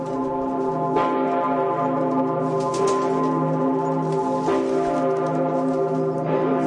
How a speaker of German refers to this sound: das ist die berühmte große Pummerin, die größte Glocke Österreichs und die zweitgrößte Glocke von ganz Europa. Das glaube ich dir jetzt aufs Wort, so laut wie die klingt.